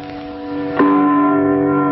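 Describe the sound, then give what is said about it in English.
A church clock bell strikes once with a loud, resonant clang as the clock tolls four and its figures circle. Its rich layered overtones ring out and sustain over the fading hum of the previous stroke. No voices are heard. “He leaves while the figures circle the church clock tolling four.”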